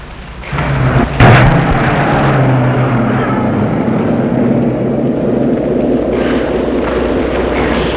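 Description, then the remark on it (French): A car engine rumbles loudly after a sharp thump as the car drives away into the night, its low hum fading over a few seconds while a steady, rain-like roar continues throughout. No one speaks. “Et la voiture a disparu dans la nuit.”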